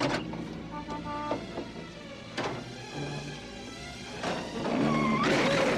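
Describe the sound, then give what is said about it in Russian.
A car door is worked open amid a series of mechanical clunks and rattles spaced a second or so apart, with a whirring, squealing mechanism rising louder near the end. No one speaks. “Открой дверь.”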